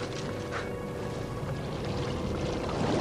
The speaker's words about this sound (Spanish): Los barcos de Sauron se acercan a la ciudad. Los defensores toman posiciones.